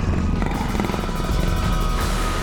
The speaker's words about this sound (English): Circe scratched the chin of her panther. The beast purred.